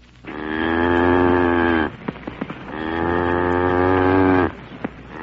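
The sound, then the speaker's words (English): Cattle low twice in long, drawn-out moos, loud, inside a railroad freight car full of cattle, with a few sharp knocks and clatters in the pause between and after the calls. “I'm going to have to pick a car full of cattle, too.”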